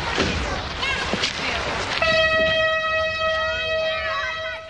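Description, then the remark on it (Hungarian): A heritage nostalgia train rumbles past, then its whistle sounds one long, steady, loud blast that holds to the end, with faint voices in the background. “Ilyen már ilyen nosztalgia vonatot fog elhúzni?”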